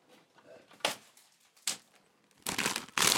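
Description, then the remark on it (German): The plastic packaging of Ölz Minischnecken, small pastry snails with chocolate cream or chocolate pieces, crinkles as it is opened: two short, sharp rustles, then a longer burst of loud crackling and a final noisy crinkle, with faint quiet sounds between. “So, es knistert ein bisschen.”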